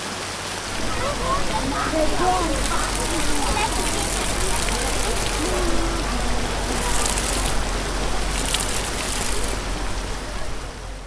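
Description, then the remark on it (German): Continuous splashing and rushing water from a public fountain in Rostock, Germany, with 20 figures and 18 large and small water jets, steady and fairly loud, with a murmur of indistinct voices in the background. “besteht insgesamt aus 20 Figuren und 18 großen und kleinen Wasserfontänen.”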